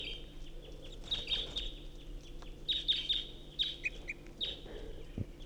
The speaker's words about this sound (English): Recording, this is the second singing bird.